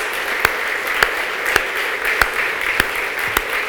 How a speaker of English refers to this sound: If you're associated vocationally with our public school schools, either here or beyond, would you please stand? Would you please stand? We want to applaud you. Just stand.